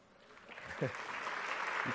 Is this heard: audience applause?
yes